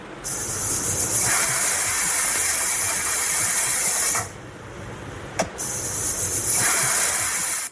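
A pressure cooker cooking meat at home in Afghanistan on the second day of Eid al-Adha hisses steam loudly and steadily, a sharp high-pitched rush that cuts off briefly with a small click before surging again, with no talking.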